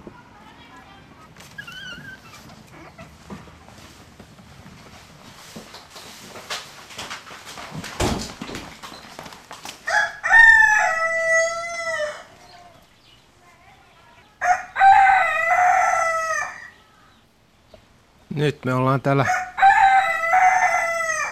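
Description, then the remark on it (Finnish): Finnish landrace roosters crow loudly several times in a henhouse, long drawn-out calls repeating every few seconds, with Finnish landrace hens clucking and rustling in the background and a person speaking briefly at the start. “kuten kuuluu, niin kanalassa. Kyllä, että nämä kanat ei ole vielä meillä hirveän kauan olleet. Nämä on ihan maatiaiskanoja”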